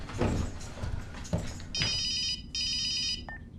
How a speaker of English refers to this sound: She strides into Des's bedroom and sees the ringing phone.